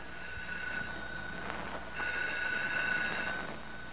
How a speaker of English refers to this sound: You come in here right this minute. The phone's ringing. Well, answer it.